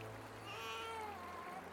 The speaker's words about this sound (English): Look! There is a crying sound coming from that basket. Oh, isn't he cute? He may be one of the Hebrew babies. He must be hungry.